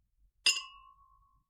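A single bright clink of glasses touching in a birthday toast, followed by a clear ringing tone that fades out over about a second in otherwise quiet surroundings.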